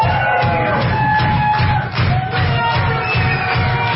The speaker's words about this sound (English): Thanks for clapping. This isn't even the beginning of a song. We're just trying to get everybody clapping.